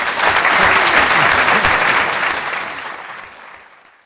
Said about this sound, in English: It's time to finish that section of the evening tonight. I think we can give Sir Bernard a round of applause.